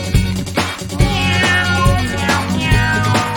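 Several cat meows ring out over a loud, steady musical backing with a regular beat, the mewing calls rising and falling repeatedly throughout.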